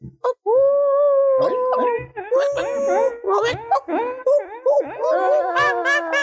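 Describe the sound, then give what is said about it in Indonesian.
Several people howl and yip together in a loud, drawn-out chorus, voices imitating dogs with long wavering howls and short barking bursts overlapping. “Jadi karena dia lagi berduka karena diselingkuhin, mari kita mengheningkan cipta dengan cara menggonggong ya.”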